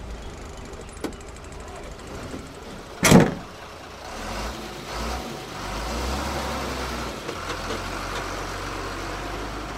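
A sharp door slam, then a truck engine rumbles to life and settles into a steady low drone as the truck pulls away carrying children toward a riverbank, with no one speaking.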